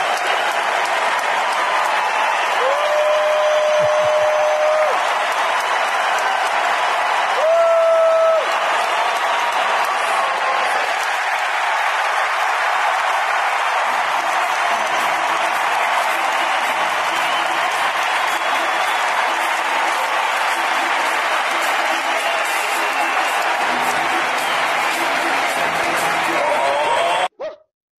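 A full Houston ballpark crowd at the 'juice box' roars and cheers loudly and without letup on the final pitch of a game in which Framber Valdez pitched 7 innings, a dense wall of noise with a couple of brief whistle tones early on, cutting off abruptly at the end.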